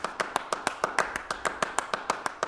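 Hand clapping in a tight, steady rhythmic pattern, about fourteen sharp claps in quick succession with slightly uneven spacing, looping on with no voices.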